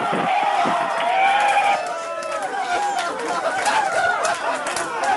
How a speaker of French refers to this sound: Les larmes et les cris de joie dans la salle de contrôle de la NASA à Pasadena en Californie pour cet atterrissage sur Mars, donc le 5 août 2012.